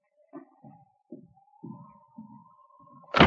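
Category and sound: household object, cabin door thrown open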